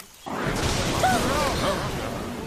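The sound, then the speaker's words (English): A sudden, loud crash of thunder from a close lightning strike in a tropical rainforest bursts in after a brief quiet moment, then holds as a dense, roaring rumble that barely fades over the next two seconds. “That sounded close. It certainly did. Fire! Fire! It must have been the lightning.”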